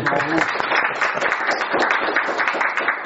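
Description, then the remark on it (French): A crowd applauds steadily, dense overlapping claps forming a continuous loud rush that holds its level for the full few seconds, with no pauses or talk. “Là, on applaudit.”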